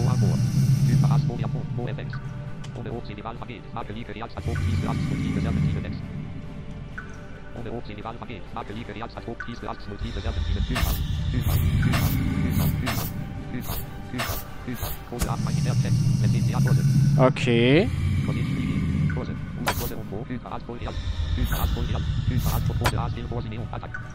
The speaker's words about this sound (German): Eine Hydra! Und sie knurrt gruselig, meine lieben Kinder. Sie knurrt sehr gruselig. Alter, hört ihr das? Die knurrt aus mehreren Richtungen, weil sie mehrere Köpfe hat.